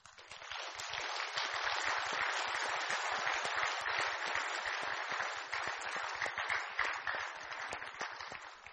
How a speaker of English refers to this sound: In all seriousness, though, let's give the women in our lives a round of applause.